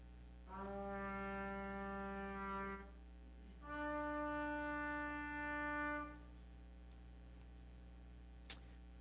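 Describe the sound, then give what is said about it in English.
Two long, loud shofar horn blasts, each a steady, buzzy, reedy tone lasting a couple of seconds; the second sounds slightly higher. A short pause separates them, and a sharp click follows. “And near around that time, I would imagine in the temple at that same point, you hear as they're not in the temple, the real sacrifice is being made out here, but in the temple, that sound is going off of that shofar once again.”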